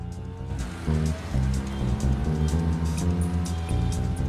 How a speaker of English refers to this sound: He revs the engine, a grimace on his face, then rides off.